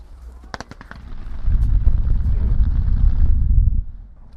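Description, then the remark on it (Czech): A few sharp cracks burst out, followed by a heavy, sustained low rumble from a construction-site blasting explosion, set off to break up blocks of earth for excavation, that rolls on for a couple of seconds before fading. “Odstřel proběhl, rána zazněla a teďka musíme posoudit samozřejmě strojní technikou, jak se podařilo rozrušit jednotlivé bloky, tak aby šli těžit.”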